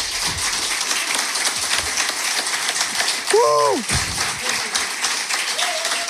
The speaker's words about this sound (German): Einmal Applaus.